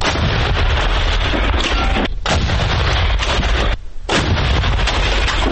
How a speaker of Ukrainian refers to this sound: Ось так з гармати рапіра, до прикладу, бійці правого сектора займались ліквідацією укріплених точок бойовиків.